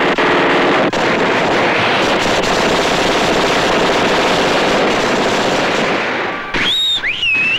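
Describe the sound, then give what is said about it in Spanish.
A woman fires a submachine gun in a shootout with police, a loud, relentless burst lasting several seconds, a dense crackling roar. As it stops, a couple of sharp, high-pitched whining tones rise and fall. “Moss coge varias granadas y ella dispara con la metralleta.”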